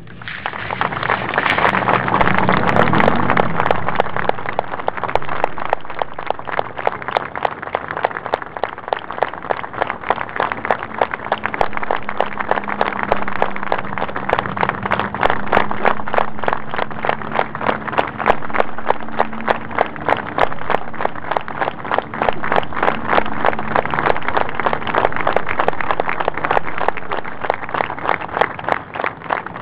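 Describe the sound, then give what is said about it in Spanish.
A large audience gives a minute of applause for the 30,000, closing a gathering, clapping loudly and without pause for about half a minute, the clapping falling into a steady, rhythmic beat, with a low murmur of crowd voices underneath. “nosotros cerramos esta convocatoria haciendo presente de una manera muy especial a los 30.000, y para los 30.000 jamás un minuto de silencio, siempre un minuto de aplauso.”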